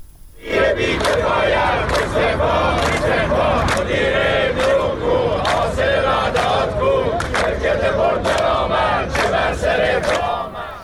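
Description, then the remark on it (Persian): A large crowd of retired employees of Iran's telecommunications company chants slogans in unison against company officials and government shareholders at a Monday rally in Iranian cities such as Ahvaz and Mashhad, loud and sustained, with rhythmic shouted bursts repeating roughly every second over a dense roar of many voices. “این تجمعات از جمله در شهرهای چون اهواز، مشهد، شهر کرد، بجنورد و خرم‌آباد برگزار شد و معترضان علیه مسئولان مخابرات و سهامداران حکومتی این شرکت شعار دادند.”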